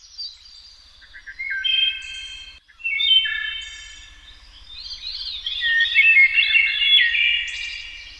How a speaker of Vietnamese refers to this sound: Những tiếng hót du dương hay ríu rít khác nhau của bầy chim phá tan đi bầu không khí tĩnh mịch của buổi trưa hè và giúp cho tôi thêm sức sống mãnh liệt.